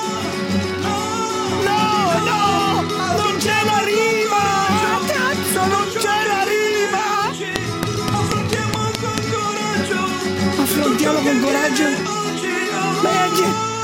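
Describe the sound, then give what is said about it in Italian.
Loud, continuous crowd screaming and cheering like a packed stadium, dubbed in behind a dense musical track with wavering vocal tones for the whole stretch. “Ma cosa sono poi quelle urla dietro come se fossi in uno stadio?”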